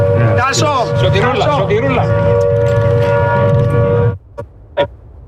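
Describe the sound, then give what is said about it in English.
A steady, wailing air raid warning siren drones loudly beneath overlapping voices at RAF Akrotiri, a British military base in Cyprus, as drones heading towards the base were intercepted; it then cuts off abruptly, followed by two sharp knocks in the near-quiet that remains. “The government says two further drones heading towards the base were successfully intercepted as warning sirens sounded.”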